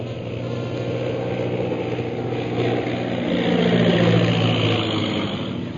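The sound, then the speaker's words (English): A low-flying airplane coming straight at the listeners drones steadily with a rough, layered hum that swells louder around the middle before easing slightly, with no voices over it. “Most High Superior, here comes one plane right at us.”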